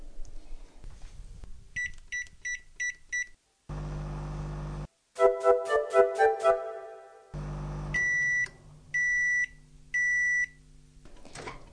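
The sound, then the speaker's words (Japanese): Short bursts of key-press beeps, then a steady microwave hum with a louder rhythmic tone sequence, followed by three long, clear completion beeps, as a 500-watt microwave oven heats uncovered minced chicken with kabayaki sauce for four minutes. Distinct, with no voices. “では、ラップをしないで500ワットの電子レンジで4分加熱します。”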